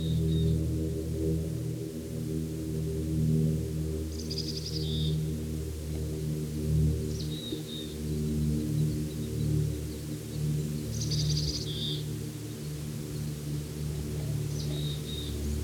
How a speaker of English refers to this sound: Appears to be alone at the moment, although there are others around. Several birds, at least three anyway, have been chorusing with these two calls.